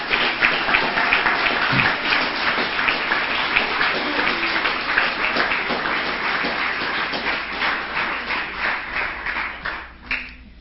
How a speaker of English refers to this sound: So just before we leave, why don't we just give a round of applause to everybody that's helped out to make this camp what it's been.